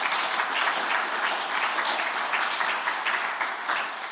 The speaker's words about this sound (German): An dieser Stelle möchte ich mich mal ganz herzlich bedanken und wir können das mal mit einem dicken Applaus machen.